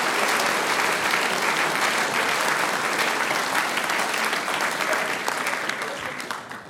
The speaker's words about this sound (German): Einen Applaus, ganz besondere Klänge haben wir da heute.